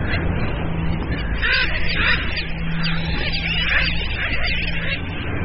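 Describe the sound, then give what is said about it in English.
A dense colony of around 300,000 seabirds, sooty terns and the larger frigate birds, with newly hatched tern chicks, fills the scene with overlapping raucous calls and squawks, a continuous loud chorus with many birds crying at once, no pauses throughout. “With food so hard to come by in the open ocean, newly hatched sooty tern chicks are easy pickings for the larger frigate birds.”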